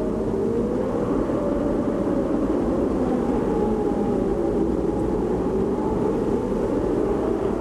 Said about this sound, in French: Le froid avec en plus le vent que l'on entend et qui multiplie le ressenti du froid. Bref, quand il y a du vent, il fait encore plus froid.